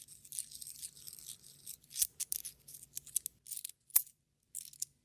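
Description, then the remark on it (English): Coins, about 46 cents' worth, being handled: a run of small, bright clinks and rattles over a few seconds, with one sharper clink near the end. No one speaks. “I've got about 46 cents in coins.”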